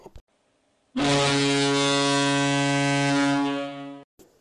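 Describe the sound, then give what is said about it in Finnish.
A loud, steady horn-like buzzer marking the end of a period blares for about three seconds, rich in stacked harmonics with a low fundamental, then cuts off sharply. A brief click comes before it and a faint thump after. “Summeri soittaa jakson päättymisen merkiksi.”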